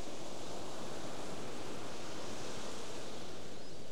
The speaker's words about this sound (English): Maybe notice the body receiving sounds from outside, the sound of the waves, the sound of your surroundings, the sound of my voice.